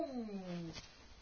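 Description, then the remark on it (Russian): A single drawn-out cat meow, sliding downward in pitch over most of a second, then a short soft clatter and quiet background. Clear, with no talking. “Мяу. Мяу, наверху опять.”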